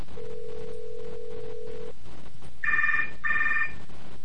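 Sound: cell phone ringing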